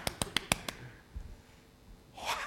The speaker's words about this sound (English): That is a clap offering. Let's give a clap offering to the Lord.